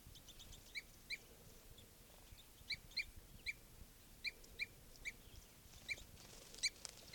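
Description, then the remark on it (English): A male and a female bird fighting, giving sharp, high-pitched chirps in quick doubled bursts that repeat irregularly over a steady low rumble of background noise. “Fight between a male and a female.”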